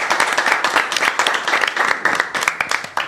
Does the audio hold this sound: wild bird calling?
no